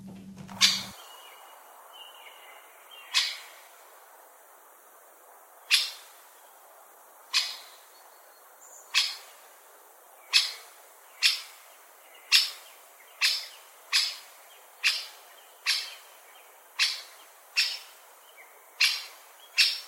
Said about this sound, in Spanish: Vamos a oír el reclamo del pájaro carpintero.